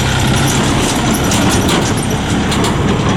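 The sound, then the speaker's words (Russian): A heavy tractor engine rumbles loudly and steadily at an ethno-archaeological museum complex, a dense, continuous mechanical roar with rattling, clattering overtones and no voices. “Вот сейчас загрохотало, дорогие слушатели, это вовсе не броневик.”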